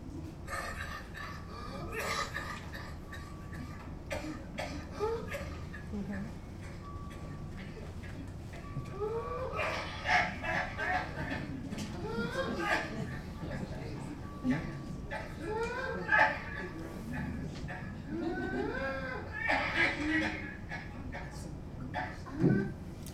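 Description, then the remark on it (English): An adult with whooping cough (pertussis) caught in repeated harsh coughing fits, rapid bursts broken by strained, high-pitched whooping gasps for breath, over a steady background hiss. “Adult with whooping cough”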